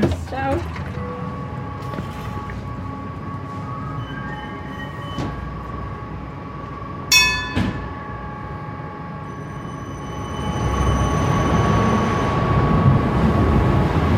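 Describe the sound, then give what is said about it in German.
A Bernmobil tram, one of 42 sent out on the rails in the morning, rolls along its rails with a steady electric motor whine over a low rumble, a brief metallic squeal midway, and the motor pitch rising as it picks up speed. “fährt eins von 42 Tram, die Bernmobil am Morgen auf die Schiene schickt.”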